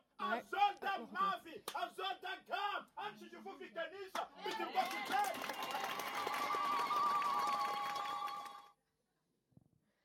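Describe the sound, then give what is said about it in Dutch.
A large church audience at Easter cheers and shouts joyfully after the words 'he is not here, he has risen' are read aloud, starting with loud rhythmic calls that swell into a sustained, roaring wave of jubilant voices before cutting off abruptly. “De hele kerk jubelt en juicht, want Jezus is opgestaan.”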